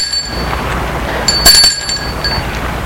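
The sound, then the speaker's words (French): A visitor rings the doorbell of a house once: a short, bright chime with ringing metallic overtones, standing out briefly over a steady background hiss. “Sonne.”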